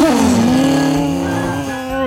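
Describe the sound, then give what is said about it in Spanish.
A chainsaw is started up to test it, its engine roaring into a loud, steady, buzzing drone that dips slightly in pitch at first, holds for about two seconds, then revs up briefly at the end. “Entonces arranca la motosierra.”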